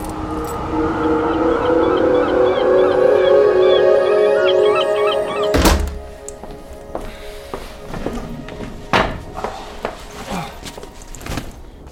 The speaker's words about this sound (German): Oh, habe ich denn jetzt den Schlüssel? Den werde ich doch wohl nicht... Ah, da ist er ja.